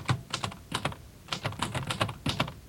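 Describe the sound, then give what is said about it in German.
Rapid typewriter keystrokes clatter in several quick bursts separated by brief pauses, crisp, with no voices. “könnte vor allem eine neue Schreibmaschine gebrauchen.”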